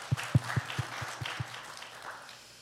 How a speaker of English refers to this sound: So thank you all. Yeah, you can clap. Go ahead.